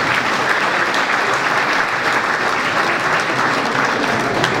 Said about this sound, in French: Merci le département. On peut applaudir le département ici présent.